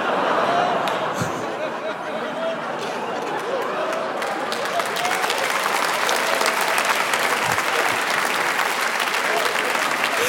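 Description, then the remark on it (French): An audience claps steadily for about ten seconds after a stand-up comedian's line, a dense, loud wash of many hands with sharp individual claps popping through and faint murmuring voices mixed in. “Hey, j'ai dit une dinguerie. Vous m'applaudissez.”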